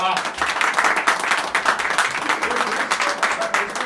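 An audience breaks into sustained applause, a dense, steady wash of many hands clapping at once that stays loud and even for several seconds.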